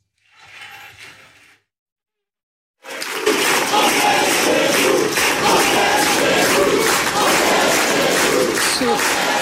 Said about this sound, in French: On est chez nous, crié par la foule face à vous. J'ai quand même dû le réécouter plusieurs fois parce que c'est un cri que l'on entend habituellement dans les meetings du Front National ou aujourd'hui du Rassemblement National.